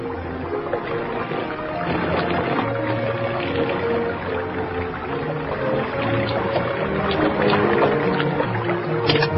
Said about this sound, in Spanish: Esta bomba, impulsada por fuerza hidráulica, transportaba agua hasta una altura de 10 metros.